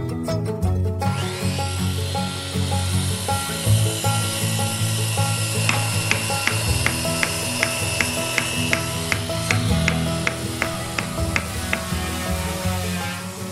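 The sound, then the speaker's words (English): A steady rasping wood sound runs throughout, like sawing, with a brisk run of evenly spaced scraping strokes in the middle. Fairly loud, with no voices. “then the administration started coming up because they're hearing a lot of sawing”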